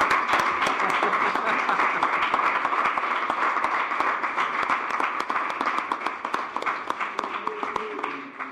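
A crowd applauds steadily, a dense wash of many hands clapping at once, sustained and fairly loud for about eight seconds before thinning slightly at the very end.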